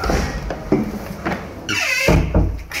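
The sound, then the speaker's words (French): One of two small doors at the Bristol creaks open with a squeaky hinge, then thuds shut, with a few knocks and clicks of handling around it and no talking. “Là, il y a ces deux petites portes cochères là.”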